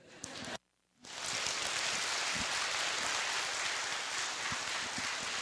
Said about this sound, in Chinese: 13个地方啊，从多伦多到这里了，哇，你们的掌声最大声。